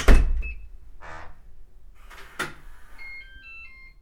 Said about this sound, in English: entered his apartment and closed the door behind him.